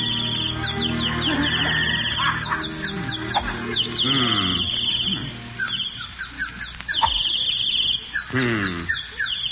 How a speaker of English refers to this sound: Damn those birds. I wish they'd stop singing. They're throwing me off my game.